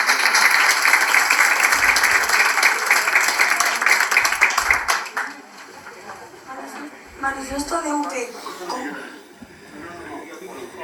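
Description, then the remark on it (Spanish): An audience applauds in a dense, steady wash of clapping for about five seconds, then the applause dies away and voices take over. “Así que damos un aplauso y empieza la mano.”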